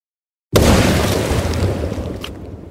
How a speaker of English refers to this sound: With the explosives prepped, he lit the fuse, and we retreated to the relative safety to witness the festivities. How long you cut that fuse for? Tim said, oh, about any time now. And with that, it detonated with a large boom.